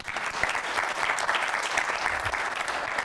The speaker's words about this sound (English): Give her a clap.